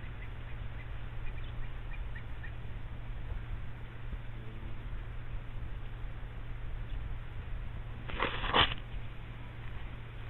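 A quick rushing whoosh, like wings sweeping past, as a stream of birds several kilometers long flies by. It rises briefly out of a steady low hum and background noise, with a few faint bird calls scattered throughout.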